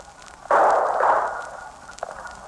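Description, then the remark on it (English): A sharp, loud gunshot bursts out and rings into a muffled decay, followed about a second and a half later by a fainter second shot, thin and band-limited like an old radio recording: police gunfire during the capture of a man in front of 2048 Potomac, relayed live by a field reporter over a mobile shortwave transmitter. “Listen closely now, and you'll hear the actual gunfire and the excitement that follows.”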